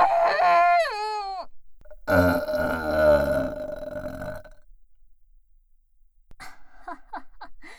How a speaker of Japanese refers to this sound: ザーメンゲップ出ちゃった。